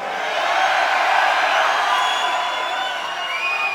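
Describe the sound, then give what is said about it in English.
A large concert crowd in Chicago screams and cheers in a loud, sustained roar, with shrill high-pitched shrieks and whistle-like cries streaking above the dense wash of voices throughout. “Let me give you a reason to scream.”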